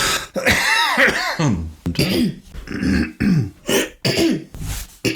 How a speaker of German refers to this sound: Kann ich mich mal räuspern, während ChatGPT sucht?